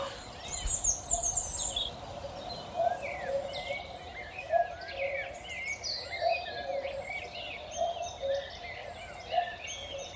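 A cuckoo calls its low two-note song over and over at a steady pace, under a busy chorus of higher chirping and trilling birds. No one speaks.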